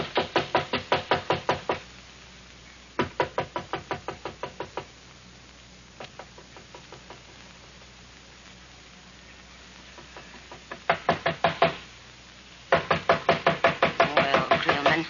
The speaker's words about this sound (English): Can't let them knock all night.